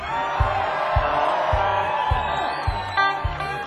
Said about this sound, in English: Now, we have a local rule here, they tell me, and that is after a song, if you applaud really big time and loud, drinks get cheaper.